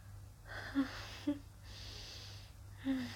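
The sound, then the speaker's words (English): Heavy, rhythmic breathing with long airy exhales and short voiced moans breaking in at intervals, all fairly quiet over a low steady hum. “And you can hear my moans, my breathing getting louder, more intense, more desperate.”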